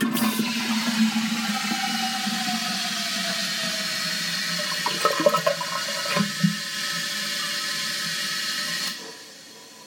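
toilet flushing

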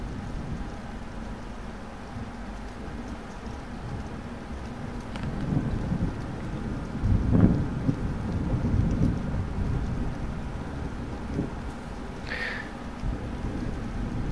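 thunderstorm with rain

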